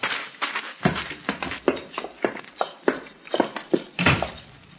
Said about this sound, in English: Welcome, gentlemen. Get down off your horses and come in.